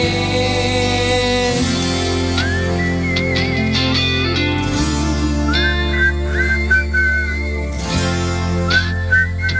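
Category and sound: human body sound, person whistling a melody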